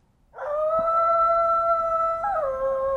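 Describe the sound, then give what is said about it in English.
A coyote sitting at the edge of a garden in a yard at night lets out one long, sustained howl, clear, holding a steady pitch before stepping briefly upward near the end, with no voices. “this is the recording that Tim got of the coyote the last night it showed up”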